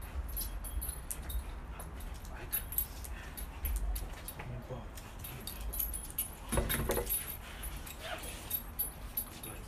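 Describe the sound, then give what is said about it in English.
A dog whimpers in short, intermittent bursts while playing with a ball that another dog is trying to grab, amid scuffling and faint jangling, with a louder flurry of movement partway through and no one speaking. “It's because the other dog's trying to get it.”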